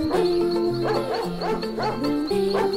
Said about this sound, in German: Oh, er bellt. Kann sein, er hat sie schon gefunden.